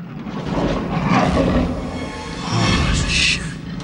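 A lion in a cage roars loudly, a rough, sustained growling bellow that swells and rumbles for several seconds with a harsh, raspy edge.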